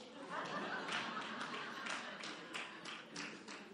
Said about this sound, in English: Yeah, now you clap.